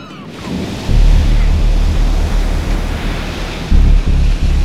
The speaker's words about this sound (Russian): Кажется, буря начинается. Как странно, ведь только от берега отошли. И все было спокойно. Ветры как будто мчатся навстречу друг другу. И сталкиваются.